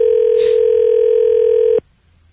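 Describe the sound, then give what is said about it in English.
A loud, steady telephone dial tone hums for almost two seconds, broken early by a single short click like a key press, then cuts off abruptly into near silence, as a number is dialed direct without dialing 9. No one speaks. “You don't have to dial a 9 here, right? You just dial direct.”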